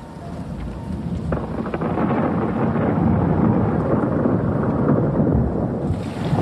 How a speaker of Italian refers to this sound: Tornando al film, sentite di sottofondo una pioggia battente, un uomo ha appena indicato la casa di Martina e di Filippa.